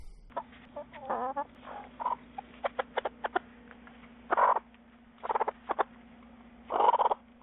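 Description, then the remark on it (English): Several backyard chickens at a coop cluck and squawk in short bursts, with a few louder drawn-out calls, over a steady low hum, no voices; heard on an urban chicken coop tour in East Dallas, Texas. “So this is the Peep at the Coops Urban Chicken Coop Tour in East Dallas, Texas.”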